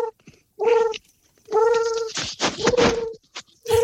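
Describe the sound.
Someone practising a pigeon imitation gives a few loud, drawn-out warbling coos in bursts separated by short pauses, the last cut off at the end; it sounded as if the imitator fell at the same time. No ordinary speech is heard.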